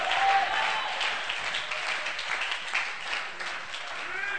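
crowd, audience clapping and shouting

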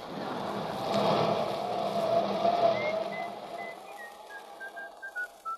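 human body sound, person whistling

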